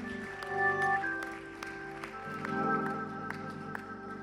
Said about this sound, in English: Why don't you give him one more hand clap of praise tonight before you're seated in the presence of God.